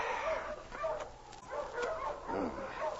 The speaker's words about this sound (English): Barking! Come here, Husky! Come here, King. Here, you two Sparkies! Stop that, King!